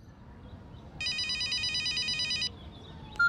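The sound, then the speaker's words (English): A telephone rings with a rapid, trilling electronic bell for about a second and a half, loud over a faint background hiss, then stops abruptly. “Read and listen to the phone conversation.”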